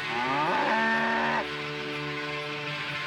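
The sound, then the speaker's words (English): A single long cow moo, loud, rising in pitch then holding a steady, lowing tone for about three seconds before fading slightly. No one speaks. “Do you hear a cow?”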